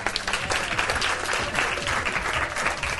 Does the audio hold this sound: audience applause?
yes